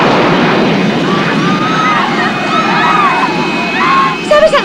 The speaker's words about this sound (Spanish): Los gases que despide la turbina derriban tenderetes y transeúntes.